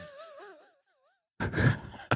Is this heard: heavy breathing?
yes